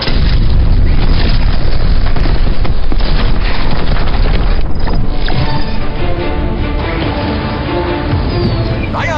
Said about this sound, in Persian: انفجار جریان برق رو قطع کرد. بدون برق استتار هولوگرام هم نداره.